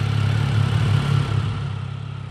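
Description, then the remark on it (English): Street traffic on a commercial strip in Portland, Oregon: a steady, loud low engine rumble like a vehicle idling, with a slight uneven throb and no voices, lasting a couple of seconds. “To see this process in action, I headed to a commercial strip here in Portland, Oregon.”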